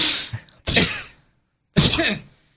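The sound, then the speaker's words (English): Someone fakes a sneeze as a joke: a breathy wind-up followed by two sharp, loud, hissing bursts about a second apart, with a short silence between them. “That's another thing that's... good on audio is sneezing jokes.”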